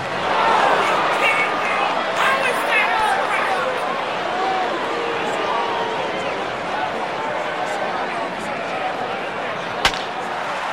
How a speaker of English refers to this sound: This is Out in Left Field, another track, which takes us to a baseball game, and someone in the crowd reacting to a call.